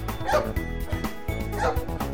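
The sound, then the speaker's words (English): A big dog named Lucky barks in two loud bursts about a second apart, over a steady musical background with no voices. “A dog!”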